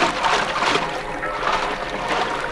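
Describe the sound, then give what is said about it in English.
Water splashes and sloshes steadily for a couple of seconds as a man eases himself over the side of a boat into the water, a fairly loud churning wash with no voices. “Then I took off some clothes and eased myself over the side.”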